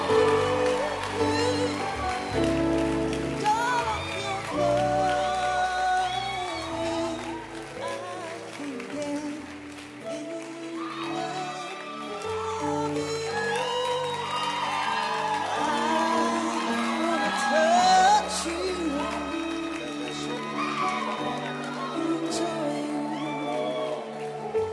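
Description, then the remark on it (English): An audience claps and cheers along with live band music, the applause and scattered whoops blending into a steady, full wash of sound that carries on throughout. “Clap your hands for my guys.”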